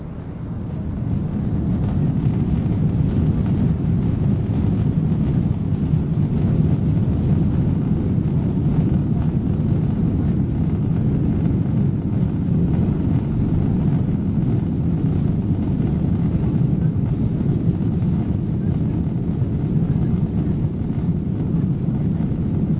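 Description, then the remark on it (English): A steady, low-pitched roar fills the cabin of an airplane in flight, a constant engine and air rumble that holds even and loud without any voices throughout. “Flying can be nice once you're in the air. Don't you wish we could be here forever and never have to land?”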